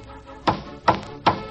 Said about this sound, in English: It's the music from the hammer of a shingler at work. Shinglers who'd mellow a house with wood shingles instead of paint and draw from their imagination a tapestry of patterns.